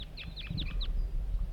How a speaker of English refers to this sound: Up here, wild birds coming in. 3 wild birds. All appear to be males. Sitting in a dead pine that's just beyond the net site.